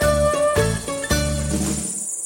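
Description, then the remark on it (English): A continuous, dense insect drone of cicadas fills the air in a vineyard, a steady high buzzing that persists throughout with a few brief swells and no voices. “So, with the constant hum of cicadas in the background,”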